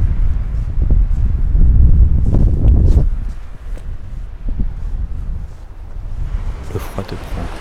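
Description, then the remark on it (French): Waves break on a beach in Brittany, France, a loud rumbling surge building for a few seconds before easing into a softer, steady wash, with gusty wind noise throughout. “Arrivé chez toi en Bretagne, tu te balades sur la plage. Le bruit familier des vagues te calme.”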